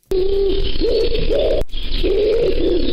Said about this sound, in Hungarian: Örvös galamb. Ez örvös galamb.